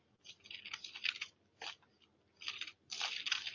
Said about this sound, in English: In 1 Chronicles 5, you can hear my pages turning.